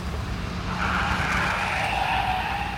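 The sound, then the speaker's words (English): A taxi drives by with a steady engine rumble, then its tires squeal briefly as it brakes to a stop at a railway station, the whine sliding downward. No voices are heard. “Here's the railway station. Thank you. Get out of the car.”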